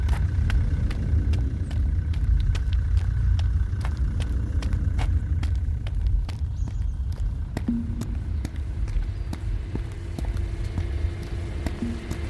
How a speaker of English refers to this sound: Cut the engine.